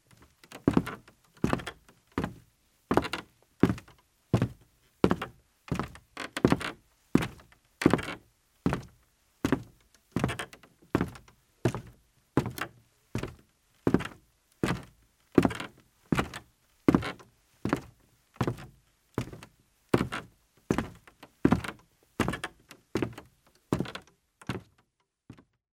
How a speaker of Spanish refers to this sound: El sonido sorpresa fue el de los pasos de una persona subiendo las escaleras mientras buscaba algo que se le había perdido. ¿Te diste cuenta que en este sonido había un crujido?